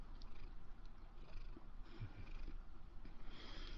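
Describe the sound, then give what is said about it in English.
A cat purrs while sitting on top of papers, a steady, rumbling drone that pulses gently and continues without a break for the whole stretch. No one speaks. “Okay, my cat wants to be part of this morning. She's right up here on top of my papers, but we'll work around her.”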